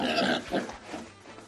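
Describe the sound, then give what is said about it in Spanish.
An Iberian pig grunts and snorts in a few rough, noisy bursts, loudest at the start and trailing off into quieter snuffling, with no voices. “Sin embargo, desde asociaciones como Asifi, quieren que cerdos de la misma raza que Manolito sean los elegidos para producir jamón ibérico.”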